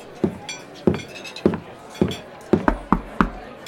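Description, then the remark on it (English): Sharp, hard knocks on a door with a glass pane in its upper half, at the far end of a gambling hall, about nine in all: several evenly spaced raps, then a quicker cluster of knocks toward the end. Each hit is crisp and fairly loud, with no voices. “Knock on that door.”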